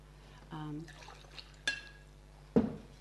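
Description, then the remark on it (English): A short pour of water into a glass, followed by a light glassy clink and a firmer knock as the glass is set down. “I need to pour a little water.”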